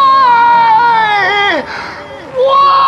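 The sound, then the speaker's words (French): A film character, John, cries and screams: a loud, long high sobbing scream slides downward and breaks off, then after a brief dip another high wail rises. Faint background murmur. “Ben, tu dis qu'il n'est pas supposé être drôle, mais le why, là, le John Hugh qui pleure, là, qui crie, c'est drôle.”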